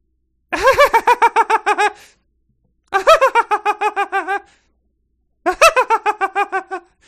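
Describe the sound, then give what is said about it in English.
A voice imitates a kookaburra-like bird trill: three loud bursts of rapid, warbling, laugh-like pulses, each lasting over a second, separated by short silences. “Oh, you went, yeah, slightly like kookaburra or... Mockingbird?”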